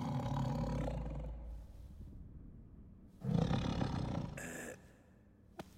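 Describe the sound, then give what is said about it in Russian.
A huge cave bear in a cave lets out two deep, rumbling roars, the second louder and fuller, followed by a brief sharp rasp at the end. No one speaks. “Серый, прекрати думать о медведе.”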